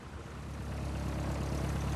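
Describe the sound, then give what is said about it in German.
A shuttle minibus taking passengers to an airfield: its engine runs steadily, a low droning hum with a faint rise in loudness, continuous, with no voices. “Florian Sinn trägt eine Maske und steigt in den Minibus. Shuttle-Service zum Flugplatz in weniger als 2 Minuten.”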